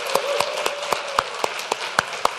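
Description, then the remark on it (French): An audience gives a standing ovation during a service, a dense wash of clapping carrying steady, evenly spaced sharp claps about four per second throughout; no one speaks. “Et moi, je vais entendre des applaudissements tellement forts comme si les Canadiens devaient le scorer.”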